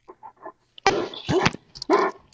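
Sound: puppy whimpering and barking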